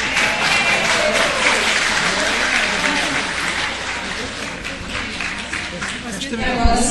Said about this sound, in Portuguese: Antes de tudo, queria pedir uma salva de palmas tanto para a organização desse evento, que me chamou para estar aqui presente.